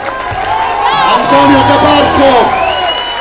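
A large crowd cheers and shouts for about three seconds, a dense, steady roar of many overlapping voices with rising whoops, staying loud throughout without a break.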